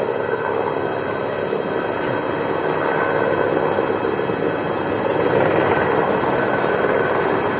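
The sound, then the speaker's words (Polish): A steady, loud roar of the engines of an Alitalia airliner carrying Pope Benedict XVI, a dense continuous rumble and whine with no breaks, swelling slightly toward the end. “Na ekranach telewizorów widzimy samolot włoskich linii Alitalia, na pokładzie którego jest Ojciec Święty Benedykt XVI, który podróżuje wraz z 29 kardynałami, arcybiskupami i biskupami”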